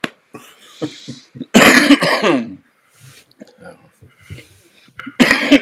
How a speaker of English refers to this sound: Excuse me. They've got me all choked up. I can't quit coughing.